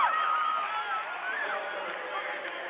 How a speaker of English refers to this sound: So loud right behind us with the Lutheran High crowd. And again, I have to say, there's about 30 of them right behind us